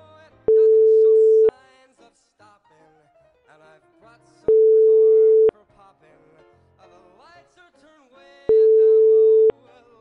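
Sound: telephone call ringing tone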